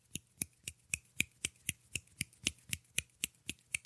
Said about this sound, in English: That might just be one hand snapping when you close it really fast, because one hand clapping would just be like waving. I call it one hand clapping. I've just tried to do that, and this is what I got.